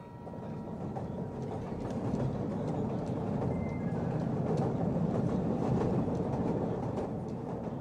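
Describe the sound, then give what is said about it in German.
A tram on line 5, the longest tram line of the GDR at over 25 kilometres, running from Trotha through Halle via Buna, Merseburg and Leuna to Bad Dürrenberg, rolls steadily along, a continuous low rumble of wheels and motor with faint rattling and occasional higher squeals, with no voices. “Mit der Linie 5 über 25 Kilometer. Die längste Straßenbahnlinie der DDR.”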